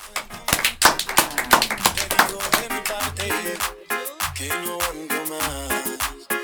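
A burst of loud applause, many hands clapping in a dense, fast patter that carries on throughout, with music and deep bass notes playing underneath, as a farewell to a guest on Radio Diversidad Cosquín.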